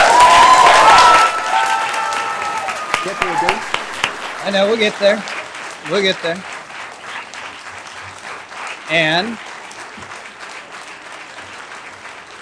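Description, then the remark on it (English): An audience claps steadily at a city council meeting after a council member votes aye, loud at first with a burst of cheering, then thinning to scattered claps as a few people talk briefly over it. “Now you can clap.”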